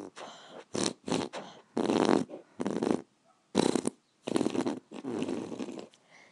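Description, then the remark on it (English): The national anthem played in belly burps: about nine short, loud gulping bursts in a steady melodic rhythm, with no talking. “Was that the national anthem? Yeah. In belly burps.”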